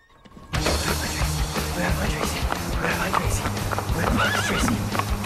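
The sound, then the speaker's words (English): A ridden horse clip-clops into a garden at a steady pace, hooves loud, while it lets out whinnying neighs over the continuous rumble of movement. “Brooke and Natalie gawp at Eric on the horse.”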